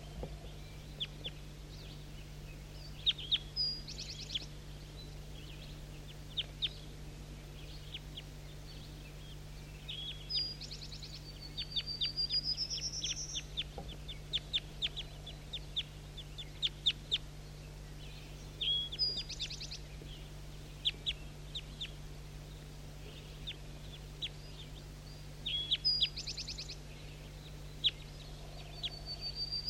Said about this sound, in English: Start recording these birds that are close now. Definitely big guy.